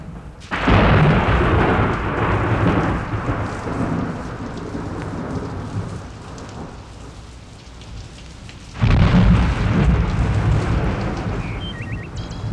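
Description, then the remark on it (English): A loud clap of thunder at night rolls and slowly fades over several seconds amid steady rain, then a second heavy rumble breaks in and lingers. No voices. “Thunder is the loudest sound the night can have.”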